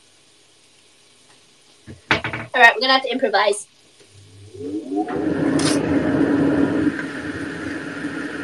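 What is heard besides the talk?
oil sizzling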